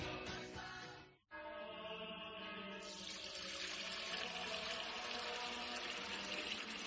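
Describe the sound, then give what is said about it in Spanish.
Fuente Umbría spring water pours steadily into a container, fairly loud, with a short break early on before the flow resumes brighter and fuller for several seconds. “Padre Gilberto, ¿qué hace? Hermano Pedro, es que no nos quedaba agua bendita. Agua pura de manantial Fuente Umbría.”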